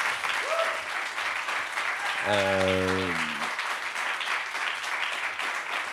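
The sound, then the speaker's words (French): Steady, dense audience applause for two interviewees at Point Éphémère fills the whole clip at a constant level, with a brief, low, drawn-out vocal cheer rising above the clapping midway through. “Vous pouvez les applaudir encore.”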